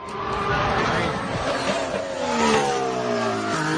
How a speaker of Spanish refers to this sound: Este coche que van a escuchar, este motor que van a escuchar, es el de Carlos Sainz Jr.